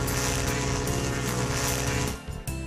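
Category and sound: vehicle, boat horn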